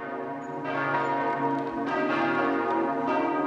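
The bells of the 13th-century Oliver church in Celle ring out in a loud, continuous peal as winners are announced, fresh strikes landing every second or so over a thick wash of lingering, overlapping tones. No voices are heard.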